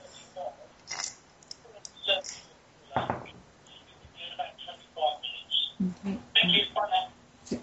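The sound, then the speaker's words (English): An answering machine picks up a call: clicks and short electronic tones mixed with a tinny, muffled voice over the phone line, moderately loud. “No, I think the answering phone's just got it. Okay. You have an answering phone like mine. I can't really turn off the stupid sound.”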